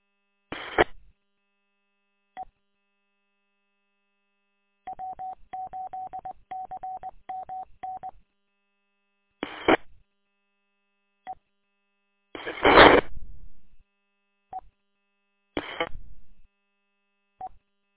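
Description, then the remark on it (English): A rapid run of telephone dialing tones as someone dials a phone to place a call, short beeping keypresses in a quick rhythm, broken up by several louder bursts of static and a few isolated clicks; no one speaks. “I think I'll give you a call on the phone.”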